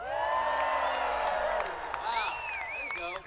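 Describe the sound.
A crowd cheers loudly and steadily, a dense wash of shouting voices with high, rising whoops and whistles breaking out over the roar in the second half.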